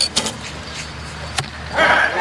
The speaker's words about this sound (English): You can, if you listen carefully, clearly hear that three stages of the flight, the twang of the bow, and then the swish through the air, and then the thud of the arrow hitting the target.